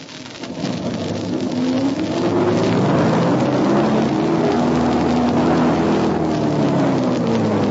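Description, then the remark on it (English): The engine of a vehicle stuck with its right rear wheel in mud during a snowstorm in darkness revs hard and steadily for several seconds, its pitch rising and falling in long sweeping bands over a broad, constant noisy roar like spinning wheels. “Right rear wheel in mud place.”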